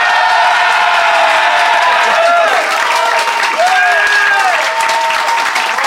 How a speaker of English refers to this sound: so I'm going to share the legal burden with our festive Phoenix Flat Slam audience. So if you think Eleanor and Fanshawe, and therefore Jenny, is in the right, applaud now. But if you think Lloyd and Ben made the better case, applaud now.